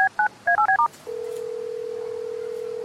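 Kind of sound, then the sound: signal or alarm, telephone being dialed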